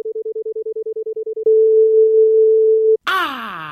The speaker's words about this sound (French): de remplacer le tut-tut pendant que le téléphone de ton correspondant sonne par quelque chose comme... Mais c'est quoi ce truc, Gisèle? Bah, c'est une attente gratuite, le temps qu'on décroche, quoi. Mais c'est nul! Remettez-moi le vieux bip!